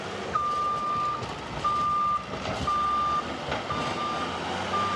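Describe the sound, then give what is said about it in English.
Bulldozers rumble and grind as they scrape away tons of red earth on mountainsides where hundreds of trees were cut down. A steady, high-pitched reversing beep sounds repeatedly in long even tones over the heavy engine noise. No one speaks. “Bulldozers struggle to scrape away tons of red earth after hundreds of trees have been cut down from the sides of the mountains.”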